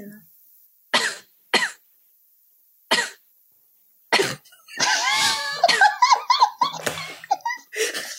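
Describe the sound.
A handful of short, sharp coughs spaced a second or two apart, close and fairly loud, followed by a burst of people laughing and talking.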